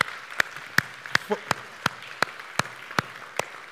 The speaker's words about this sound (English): Can we give them a round of applause, right?